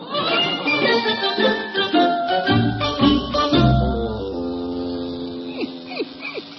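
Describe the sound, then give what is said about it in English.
Curly's electric razor buzzes with a steady, harmonic-rich drone that settles in after a busy, clattering start, holding a fairly even hum with slight pitch wobbles toward the end, as it shaves paint out of a dog's fur. “Where does Curly keep his electric razor?”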